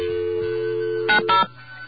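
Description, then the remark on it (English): A steady telephone dial tone hums, then two short bursts of bright dialing tones cut in as a call is placed to a telephone operator, before the line drops to a quieter hum; no one speaks. “All right, we're going to actually reach out and call an operator using our magic dial tone.”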